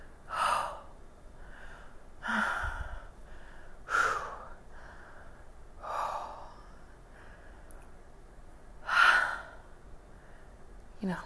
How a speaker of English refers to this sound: And then I got in the water, and it's cold, right? I mean, this was just a natural reaction to the cold. I gasped and shivered a bit and gasped.